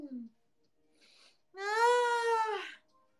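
A cat lets out one loud, drawn-out yowl, close by and lasting about a second, rising slightly then sagging, after a brief low sound and a faint scuffling hiss.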